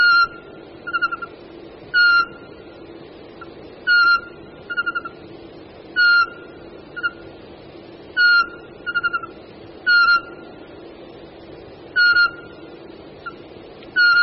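A male pygmy owl gives its territorial whistling call: clear, monotonous whistled notes repeated about every two seconds, interspersed with softer brief simple trills that the excited male adds, alone with no talking.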